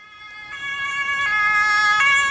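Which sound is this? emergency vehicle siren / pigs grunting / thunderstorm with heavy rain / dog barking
emergency vehicle siren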